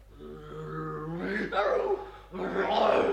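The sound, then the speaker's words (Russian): Tiger cubs purring, a steady rumbling hum that swells into two louder, throatier bursts, with no talking over it. “О, да вы уже научились мурлыкать.”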